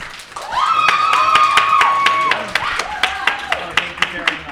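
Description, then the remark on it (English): Steady, evenly spaced claps from an audience voting by applause for a panelist ring out while a long, high sustained voice cheers over them, then a lower drawn-out shout follows as the rhythmic clapping carries on to the end. “So we're going to do it by applause.”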